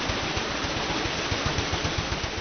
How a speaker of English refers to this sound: The heart of the mill, of course, is the water wheel, noisy and powerful.